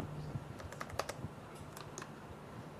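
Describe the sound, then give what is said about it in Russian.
Rapid, irregular clicks of keys being pressed on a computer keyboard with a stuck Windows key, moderately quiet, with a low steady hum underneath and no talking. “Это была запавшая кнопка Windows.”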